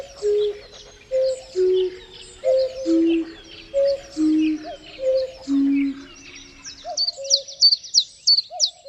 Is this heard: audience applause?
no